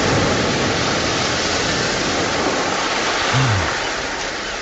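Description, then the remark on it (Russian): A stormy sea roars loudly and without pause, raging more and more strongly, a dense, churning wash of noise, with a brief low moan rising through it near the end. No voices. “Море бушует сильнее и сильнее.”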